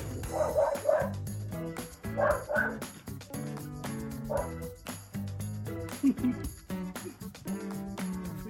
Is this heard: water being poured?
no